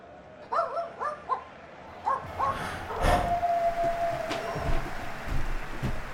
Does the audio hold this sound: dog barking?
yes